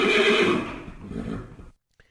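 A single loud horse whinny, wavering and trailing off over about a second and a half, followed by a faint brief tap and silence.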